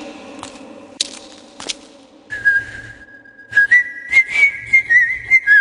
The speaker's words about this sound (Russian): свистел, и его свист разносился по всей часовне.